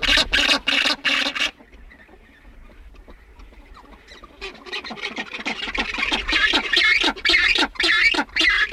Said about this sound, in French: Donc à nouveau des sons étranges. Ce sont les oiseaux, les gorfous sauteurs.